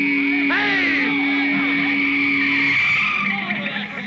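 A car roars onto a playing field, loud, engine whining steadily while its tires skid and squeal across the ground for a few seconds before the noise eases off.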